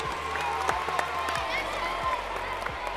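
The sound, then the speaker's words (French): A group of CE2 primary school pupils applaud themselves at a 2019 tournament, dense clapping forming a continuous wash with a few sharper claps and faint voices mixed in throughout. “Alors, on peut tous s'applaudir très fort, on peut tous bien jouer.”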